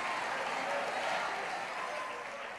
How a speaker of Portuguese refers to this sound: Mistura essa palma com glória a Deus e aleluia. Mistura essa palma com glória.